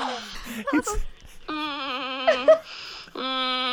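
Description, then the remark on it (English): A person bleats like a goat in long, wavering, nasal tones, two drawn-out calls with a short gasping break between, fairly loud, preceded by a few quick vocal noises. “You sound like a sort of turned on goat.”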